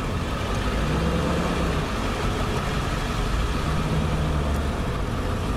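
A work truck's engine rumbles steadily, a deep, continuous drone that holds an even loudness throughout as the vehicle idles and eases forward. No one speaks.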